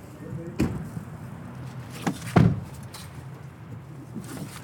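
A car door shuts with a solid thud, set among a few sharper clunks and clicks as the car's lock engages, over a low rumbling background.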